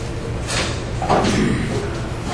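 A back door swings shut with a dull thud and a brief rattle, set against steady background murmur and shuffling.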